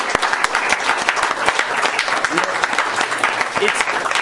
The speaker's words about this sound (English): Now, I know we don't do this in our fellowship. I don't do this at home. I try to do what the Holy Spirit tells me to do, but if you don't like it, you don't have to, but can we give the Lord some applause?